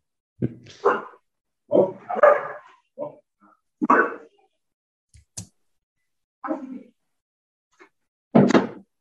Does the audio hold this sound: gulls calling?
no